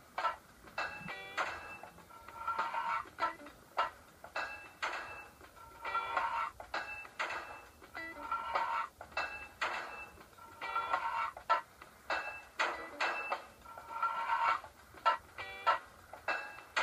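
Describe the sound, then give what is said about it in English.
Video game sound effects of hammering pipes into place: hammer clanks alternate with blips for sliding to the next pipe and for pieces that don't fit or fit, with short bright tonal beeps and sharp clicks repeating in a steady rhythm over a faint electronic backing. “Hammer, slide next, doesn't fit, fits, hammer, and that's all it is.”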